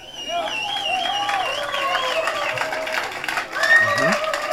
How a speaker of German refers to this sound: Und dann hat man das nämlich auch. Den Applaus auch drauf.